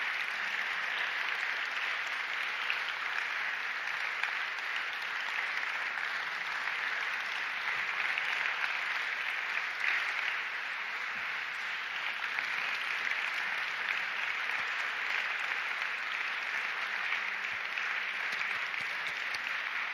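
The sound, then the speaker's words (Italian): Sustained audience applause for Nathan Falco, a dense wash of many hands clapping at steady volume for the full twenty seconds, with no voices rising above it. “Questo applauso è per Nathan Falco, ovviamente.”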